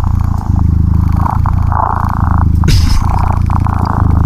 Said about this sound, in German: Und das Tolle am Schnurrgenerator, man kann sogar an den Frequenzen rumdrehen. Ich mache das gerade mal hier. Wenn ich zum Beispiel meine Katze gerne mit etwas mehr Bass hätte. Ich kann aber auch meiner Katze ein paar mehr Mitten geben.